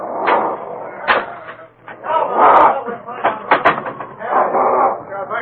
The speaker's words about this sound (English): He heard the fury of the men's voices, and as they rammed the door, it seemed that the small building rocked with the impact of their violence.